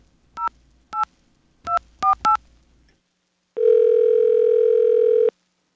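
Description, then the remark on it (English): Five short touch-tone dialing beeps in an uneven rhythm as a number is dialed with caller ID blocked to reach the Bell Atlantic caller ID test line, followed after a pause by a loud, steady telephone tone lasting about two seconds. No one speaks. “I'm going to call that same number and see if the Bell Atlantic caller ID test works.”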